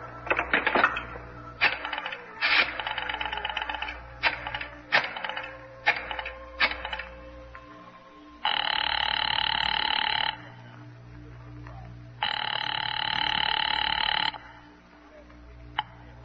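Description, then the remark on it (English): A phone is dialed with a run of quick mechanical clicks, then rings twice in long, loud, buzzing bursts separated by a short pause. Nobody speaks. “You mind if I use this phone?”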